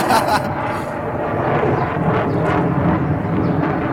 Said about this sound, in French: C'est le Concorde.